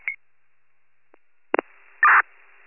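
Short electronic telephone tones sound in a few separate bursts over a quiet line, ending with a louder, longer buzzy tone. No one speaks.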